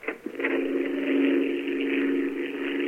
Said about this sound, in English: Frank, there is a plane up there. Yeah, I hear it. By the sound, he's sizzling overhead.